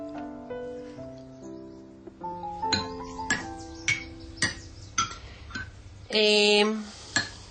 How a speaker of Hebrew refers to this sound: אמרתי שאני לא רוצה לשמוע אותך מנגנת בקסילופון. אז אתה לא חייב להקשיב. אבל את מנגנת פה, ואני לא יכול לא לשמוע.